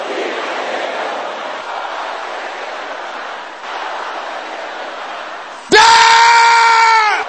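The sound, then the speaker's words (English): A large audience shouts and roars together at the speaker's call, a loud, sustained wash of voices, ending with one piercing, high-pitched scream cutting through over the final seconds. “Let your voice roar.”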